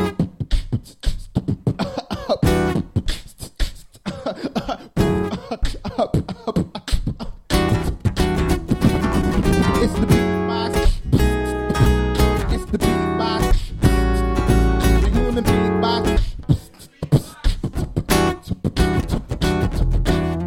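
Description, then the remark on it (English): A steady strummed guitar with mouth-made beatbox percussion on top, played by one person at the same time: punchy kicks and crisp snare-like clicks keep a continuous rhythm, quieter at first and building fuller and louder midway. “I'm beatboxing and playing the guitar at the same time.”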